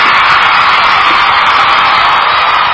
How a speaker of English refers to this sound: Hey, that's the first time we've done that. No one's gotten two. Right, we did double applause.